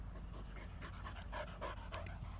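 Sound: dog panting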